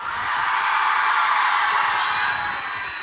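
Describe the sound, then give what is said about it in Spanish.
A large audience at a live band concert roars, shouting and cheering in a dense, sustained wall of voices that stays loud and steady throughout, with no single voice standing out. “Yo también grito como ustedes, por dentro, sí, no puedo.”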